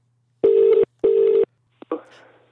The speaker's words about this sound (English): Oh, blimey, it's ringing. It was a good start, isn't it?